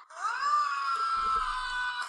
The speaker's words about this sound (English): Tom Cruise. Scream. My computer's loud enough because I got shit speakers.